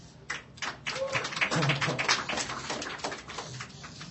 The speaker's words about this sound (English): So anyway, give them a big round of applause.